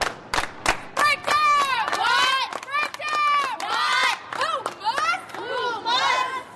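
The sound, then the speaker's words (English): A high school basketball team, led by a 15-year-old girl, shouts a loud, rhythmic pregame chant in unison before their semifinal game against the undefeated Cottage Hill Mustangs, young voices punctuated by sharp claps and stomps, energetic like a team cheer. “leads her team in a cheer before their semifinal game against the undefeated Cottage Hill Mustangs.”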